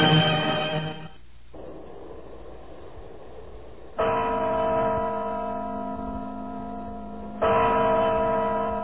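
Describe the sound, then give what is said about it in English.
Deep, resonant strikes of the clock in the Kremlin wall, Red Square, Moscow: three heavy tolls spaced a few seconds apart. Each rings out with rich overtones and slowly fades, over a faint background hiss. “Measured tones of the clock in the Kremlin wall.”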